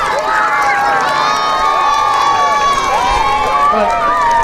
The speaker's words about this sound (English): Well done, yes. A big round of applause. Thank you very much.